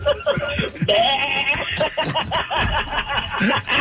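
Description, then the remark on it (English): A man imitates a goat on the radio show The Woodman in the Morning, letting out a string of wavering, nasal bleats as if after taking a goat pill, mixed with snickering laughter from others. “Let me hear what you sound like after you take a goat pill.”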